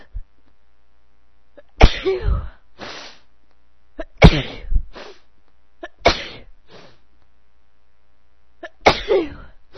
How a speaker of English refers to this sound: I've had it at light, but I've now just clicked it over to heavy. So we'll see what happens. I can feel it already starting to tickle. Worse than I'm gonna sneeze.